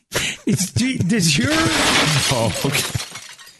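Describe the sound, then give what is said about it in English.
A glass window shatters loudly in a burst of crashing, scattering fragments over about three seconds, while voices laugh and exclaim over the noise before it tapers off. “How can you tell if the windows were smashed in Oakland?”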